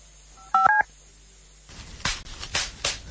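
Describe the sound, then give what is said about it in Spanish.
Bubble wrap being popped: a handful of sharp, crackly bursts over a rustling plastic hiss, preceded by a quick pair of telephone keypad beeps. “¿Lo oyes? Sí, papel de burbujas.”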